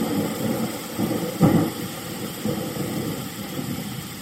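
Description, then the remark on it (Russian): Heavy rain pours steadily, with deep thunder rumbling through it and a louder crack-like swell near the middle, then the storm keeps roaring on. No one speaks. “Потом буря стала стихать, и еще 2 часа наступил мертвый штиль и полил дождь.”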